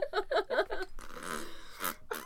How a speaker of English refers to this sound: Gross. Fart noises.